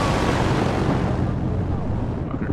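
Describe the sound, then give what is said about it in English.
A hostile helicopter coming in from the south roars loudly and steadily, its heavy low throb and broad rushing noise filling the whole stretch without any break or speech. “Helicopter coming in.”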